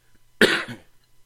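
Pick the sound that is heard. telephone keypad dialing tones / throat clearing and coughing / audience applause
throat clearing and coughing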